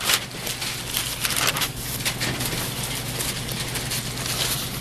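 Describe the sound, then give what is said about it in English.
Many Bible pages turn at once as a group looks up Acts 10:44–48, a steady papery rustle and flutter with irregular soft bursts throughout, over a low steady hum and with no voices. “somebody said that there's just no prettier sound in the world than Bible pages turning, you know?”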